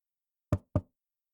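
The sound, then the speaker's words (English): Two quick, solid knocks on an open wooden door, fairly loud, evenly spaced a fraction of a second apart, with silence before and after. “Knock knock. Hey, Roomie. Sorry, your door was open.”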